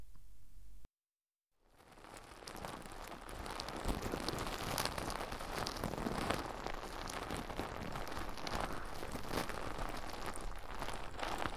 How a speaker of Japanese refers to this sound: まずはこの、泡で出てくるソープをたっぷり手のひらに出して、では、手に出したこのもちもちの泡を、お耳に塗っていきますね。こっちの耳から。